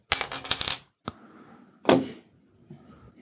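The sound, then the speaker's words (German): A Bitburger beer bottle being opened: metallic clinks and rattles, a sharp click, then a bright hissing pop that fades quickly. Fairly loud, with no voices. “Währenddessen mache ich mein erstes Bit auf, ja?”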